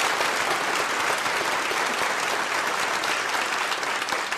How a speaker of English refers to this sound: Give your hands, give yourself a big round of applause and to Michael Lewis as well.